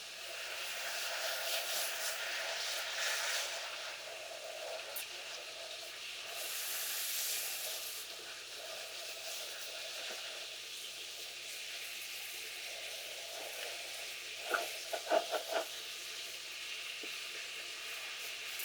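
Carbonated shampoo fizzes and crackles steadily as it is rinsed through hair with warm water, a continuous hiss with a few brief louder splashy bursts near the end and no voices.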